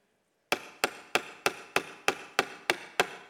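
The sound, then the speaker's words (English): A hammer taps a nail into wood nine times in a quick, steady rhythm, each sharp knock ringing briefly. The strikes are clear after a moment of silence, with no talking. “But they would get this hammer, and they would grab it way up here.”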